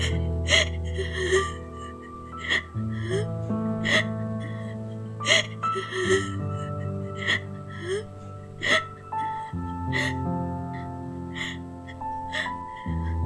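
A girl sobbing and whimpering as she falls asleep crying, with repeated sharp gasping breaths every second or so, set against steady, sustained tones of soft background music.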